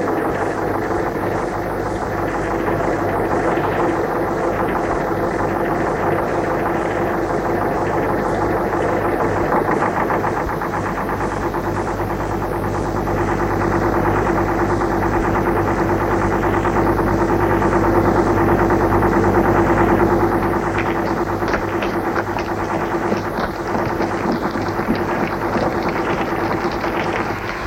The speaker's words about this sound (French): Elle laisse passer un camion.